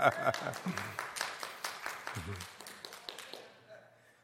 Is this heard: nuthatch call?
no